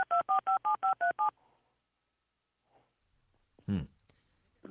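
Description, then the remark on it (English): Seven quick telephone keypad tones beep in a steady, even rhythm, loud, then give way to near silence before a brief burst of a voice. “Is that your phone?”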